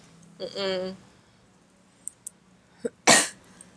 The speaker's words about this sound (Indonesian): Semoga batuknya hilang. Ini batuk nih kayaknya karena debu deh. Kemarin tuh kamu udah gak batuk kan, udah reda.